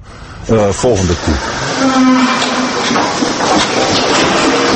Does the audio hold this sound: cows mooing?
yes